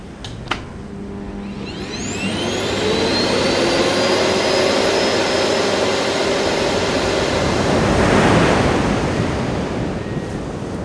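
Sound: vacuum cleaner running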